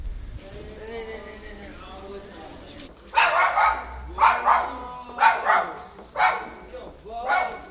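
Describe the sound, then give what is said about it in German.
A small dog sitting outside a Coop store in Langenthal whimpers softly, then breaks into a run of about six sharp, high barks in a fairly steady rhythm, loud. “Ja, ich habe ja jetzt so eingeschätzt, eigentlich, dass er ihn bellen würde.”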